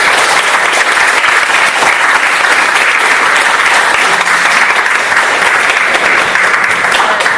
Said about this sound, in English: So on that note, I'd just like to ask the audience to give a round of applause for all the speakers, and thank you very much for your time.